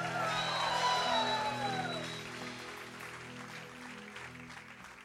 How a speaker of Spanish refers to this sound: Venga ese aplauso con gana. Y si está y lo cree, dé un grito de alabanza.